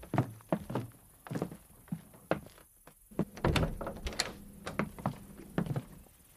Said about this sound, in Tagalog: Ikandado mo uli ang pinto